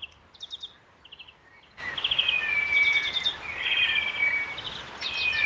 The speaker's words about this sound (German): Hörst du den Vogel? Tiu, tiu, tiu.